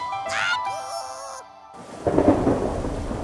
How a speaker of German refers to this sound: Oh nein. Jetzt regnet's auch noch. Hier, im Studio, mit Blitz und Donner. Donnerwetter.